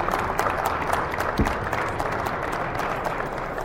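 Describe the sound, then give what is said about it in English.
A biodiesel conference crowd applauds John Deere and New Holland steadily for a few seconds, a dense, even wash of many hands clapping at once, with no voices rising above it. “So everybody take a moment to give some a round of applause to John Deere and New Holland for their support this year.”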